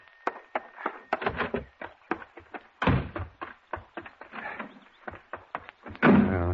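household object, door opening and slamming

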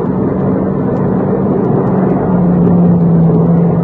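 vehicle, car driving past

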